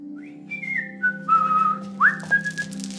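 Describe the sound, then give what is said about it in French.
A man whistles a casual, meandering tune as he arrives, with sustained notes gliding between pitches over a low steady background hum. “est arrivé en sifflotant, ce qui m'a fait penser à mon père.”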